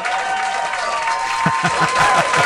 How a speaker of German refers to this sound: Hier kommt ein Applaus.